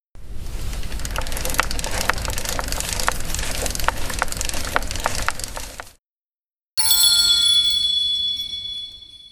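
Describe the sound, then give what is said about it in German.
A transponder clicks repeatedly over a rough, crackling noise for several seconds. After a short silence, a door lock gives off bright, high-pitched electronic beeps as it opens. “Hier hat man zuerst das Klicken auf einem Transponder gehört, bevor dann das Türschloss gepiept hat und geöffnet wurde.”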